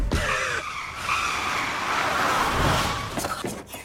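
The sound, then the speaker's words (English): A car brakes hard as something like an animal flies toward it, nearly causing an accident; its tires squeal in a sustained, high-pitched skid for several seconds, ending with a couple of sharp bumps as the vehicle lurches to a stop. “何か動物らしきものが車に向かって飛んできて、あわや事故かというところです。”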